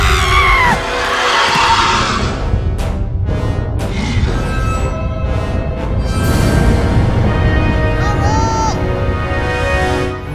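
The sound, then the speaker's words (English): Loud, high-pitched yelling and screaming fills the whole stretch, shrill voices rising and wavering over a dense, chaotic din with barely a pause. “What's with all the girly yelling?”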